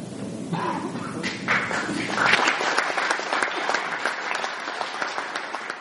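An audience breaks into steady applause, dense overlapping claps at a fairly loud level holding for several seconds without letting up, with a faint murmur of voices early on.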